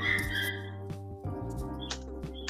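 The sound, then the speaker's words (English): A dog whines in thin, high-pitched tones that rise and waver in short bursts, set over a steady low electrical hum with no one talking. “What the dog doing? Oh my fucking god, you guys can hear that.”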